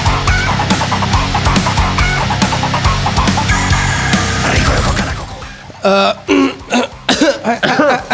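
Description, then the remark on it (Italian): A rooster in a henhouse crows in a few harsh, rising-and-falling bursts, following several seconds of dense, rhythmic background noise that cuts off abruptly. “gallo del pollaio.”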